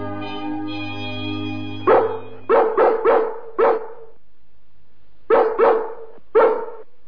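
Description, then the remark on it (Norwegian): Dogs bark in two bursts, five sharp echoing barks, then a pause and three more. A steady low tonal hum fills the opening seconds. “Skomringsbjeffet, men kjære, de er jo bare for sladder.”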